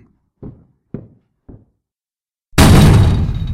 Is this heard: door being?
yes